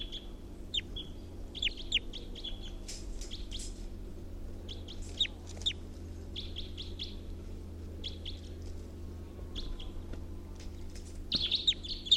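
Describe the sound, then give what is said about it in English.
A wild bird perched in a tall pine above a net: high, thin chirps and short tweets repeat in scattered bursts over a steady low hum, calls coming in irregular clusters with brief gaps, some sharper notes near the end. “There's a wild bird around.”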